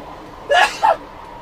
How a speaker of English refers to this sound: Gesundheit. Sorry about that. I have mild allergies and hay fever, so there you go.